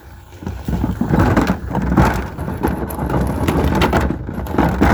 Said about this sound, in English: Let me get my trash can out on the road here.